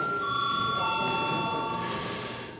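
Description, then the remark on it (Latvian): A parliament voting bell, called for before a first-reading vote on a bill amending the land register law, rings steadily for a few seconds, a continuous high-pitched electric tone holding at an even level before tapering slightly at the end, with no voices. “Paldies, lūdzu zvanu.”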